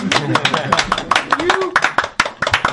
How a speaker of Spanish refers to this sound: Agora é o momento dos aplausos.